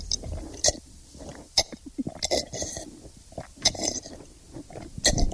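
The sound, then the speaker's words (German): Someone gulps down water from buckets, trying to drink as much water as a camel, in a series of wet, throaty swallows, coming at an uneven rhythm with short pauses between, moderately loud with no talking. “Ich versuche, so viel Wasser zu trinken wie ein Kamel.”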